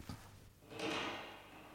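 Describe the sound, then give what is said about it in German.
A cutlery drawer slides open with a scraping, faintly rattling rush, preceded by a brief knock. No voices are heard. “Und die Schublade mit den Bestecken.”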